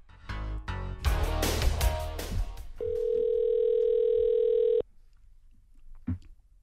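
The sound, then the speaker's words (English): Rustling and clunking handling noises give way to one steady ringback tone on an outgoing phone call, lasting about two seconds, followed by near silence and a couple of faint clicks. “Here's his ringtone.”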